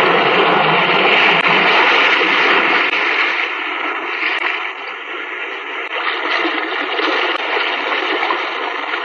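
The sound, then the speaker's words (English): Sea waves surge and wash inside a cave by the sea, a steady, loud roaring rush with gentle swells, heard alone with a muffled, narrow quality like an old broadcast recording; the opening of the 1940s radio drama series The Weird Circle. “In this cave by the restless sea, we are met to call from out of the past stories, strange and weird.”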